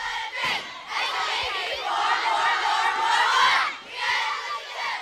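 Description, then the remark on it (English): A group of girls at camp cheers and shouts together during Color Days team games, high-pitched voices in a loud, sustained roar of excitement that dips briefly before swelling again. “They like the cheering.”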